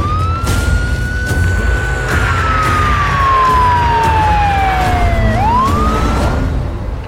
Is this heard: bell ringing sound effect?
no